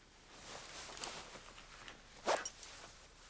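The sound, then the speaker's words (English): A man pulls up his trouser zipper in a marble bathroom after using the toilet: a quick raspy zip with a short ratcheting burst near the end and faint rustling of fabric around it, otherwise quiet. “He aims back into the bowl, finishes, and zips up his trousers before he turns to the wash basin.”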